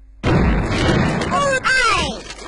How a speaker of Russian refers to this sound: Салют в нашу честь.